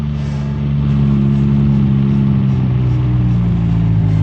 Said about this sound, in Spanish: El auto se detiene casi silenciosamente.